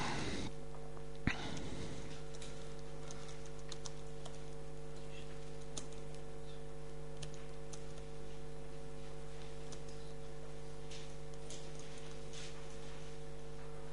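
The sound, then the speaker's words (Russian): Sparse, irregular keyboard clicks tap away faintly over a steady electrical hum, with no one speaking. The keystrokes come in scattered bursts rather than a steady rhythm. “Сегодня как привыкнуть не мог к клавиатуре.”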